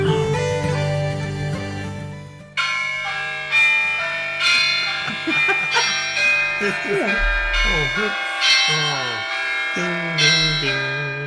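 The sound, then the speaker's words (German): Church bells peal from a tower, with overlapping strikes every second or so and long ringing tones that layer into a dense, continuous clangor, while faint voices murmur underneath. “Nein, Glockenturm.”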